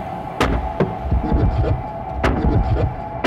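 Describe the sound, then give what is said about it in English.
Heavy pounding on a door: a few loud, irregular thuds, two close together early on and a pair later, over a steady low rumbling drone. No one speaks. “And he says the pounding, all the activity stops.”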